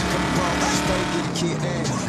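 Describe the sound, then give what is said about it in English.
A black muscle car engine revs loudly in a Fast and Furious Race Wars scene, a thick, continuous rumbling roar that stays strong for about two seconds with a faint squeal of tires mixed in. “This is it. A black muscle car.”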